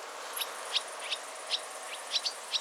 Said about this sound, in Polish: Jeśli chodzi o ich głosy, to w przeciwieństwie do jeżyków nie świszczą. Mają bardziej przytłumione dźwięki. Dymówki, które tutaj latają, wydają dźwięki, które brzmią trochę jak takie pik, pik, fik.